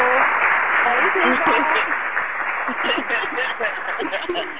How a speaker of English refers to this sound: Girl, let's go ahead and pull the queen on the line so she can help us step our game up to that grown woman status and give that woman a round of applause. Because it's only right.